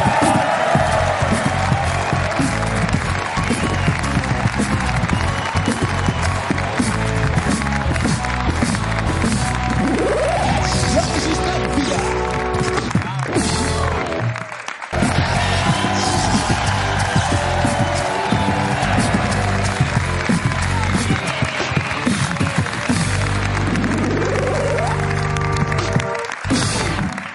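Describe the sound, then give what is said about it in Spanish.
The studio audience of the TV show La Resistencia on Movistar Plus applauds and cheers loudly and without a break for almost half a minute, going into a commercial break, with lively band music playing underneath the steady clapping. “Un aplauso para Jorge, para Elizabeth, para Enrique.”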